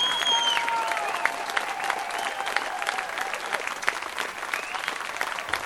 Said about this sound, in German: Diesen Applaus schenken Sie meinem Musiker.